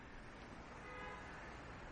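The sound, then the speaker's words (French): A car horn sounds faintly and briefly on a street in Tokyo, a thin tonal honk almost buried in the steady rumble of street traffic. “Deuxième klaxon. Le deuxième klaxon de Tokyo.”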